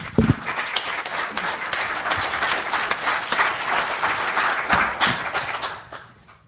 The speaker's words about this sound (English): Fantastic. I think we have a round of applause for those people, please.